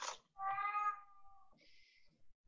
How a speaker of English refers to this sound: I hate that cat.